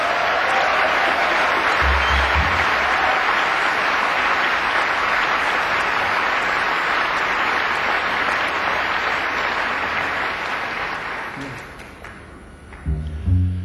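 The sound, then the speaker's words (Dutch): A large concert audience applauds a pianist steadily in a dense, loud wash of clapping for about eleven seconds, then it fades and thins out into a few scattered claps with low thumps. “En in dit nummer toch een applaus voor de fantastische Nathalie Laurier op piano.”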